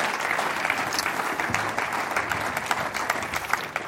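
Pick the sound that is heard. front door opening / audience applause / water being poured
audience applause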